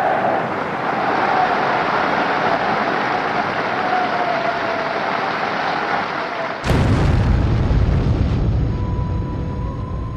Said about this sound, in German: Die Explosion verwüstet den Saal. 7 Parteimitglieder und eine Kellnerin sterben. 63 Personen werden verletzt, davon 15 schwer. Das Geräusch ist selbst für die Radiohörer, die der Berichterstattung über den Äther folgen, deutlich zu vernehmen.